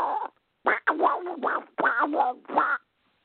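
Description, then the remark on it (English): A man does a raspy, garbled Donald Duck impression, squawking out four quick, loud bursts of quacky gibberish with short pauses between them. “And later on, I start doing impressions like Donald Duck.”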